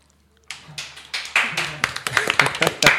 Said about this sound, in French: Déjà des applaudissements, j'ai pas encore commencé à parler, génial, j'adore ça.